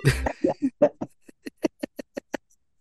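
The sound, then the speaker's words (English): Someone has a coughing fit: one harsh, rough cough followed by a quick, rhythmic string of about a dozen short hacking coughs that gradually taper off, with no talking. “And this is me coughing.”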